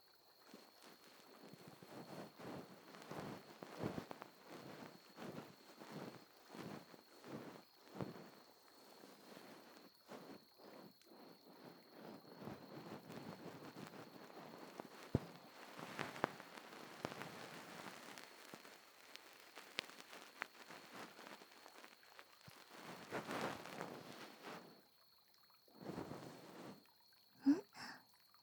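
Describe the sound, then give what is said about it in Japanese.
Soft rustling strokes of a fluffy bonten ear pick brushing inside an ear, repeated in uneven swishes with brief pauses, no talking, and a faint steady whine in the background. “やっぱ梵天の気持ちよさは一味違うみたいだね。”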